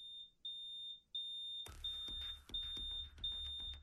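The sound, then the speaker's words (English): A high-pitched fire alarm beeps in a steady repeating pattern, loud, as smoke fills a house, with a rumbling background noise joining partway through as the shrill tones keep pulsing. “The fire alarm goes off.”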